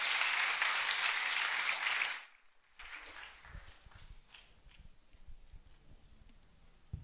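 An audience breaks into loud, dense applause that lasts about two seconds, then cuts off sharply, leaving faint shuffling and scattered low thumps.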